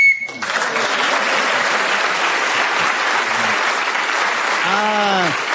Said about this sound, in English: who was speaking then as the whistle went? It was Tim Rice, so he's got that extra point.